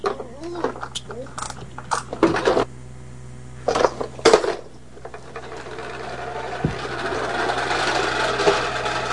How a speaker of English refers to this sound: The lawnmower. What do we put inside of that lawnmower when we play with it outside? Do you remember? Bubbles. It makes bubbles. It sure does.